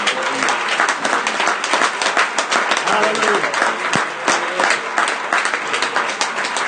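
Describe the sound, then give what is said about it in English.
An audience claps their hands loudly and steadily, a dense wash of many overlapping claps filling the whole stretch, while a voice calls out briefly above it. “So that's for all them that are against us clapping and rejoicing and everything else.”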